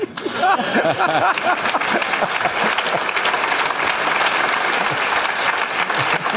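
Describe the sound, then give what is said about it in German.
A crowd applauds steadily and loudly, with dense overlapping claps throughout and a few voices faintly audible early on beneath the clapping. “Und mit diesen warmen Grüßen und mit warmem Applaus freuen wir uns auf das, was gleich bei uns passiert.”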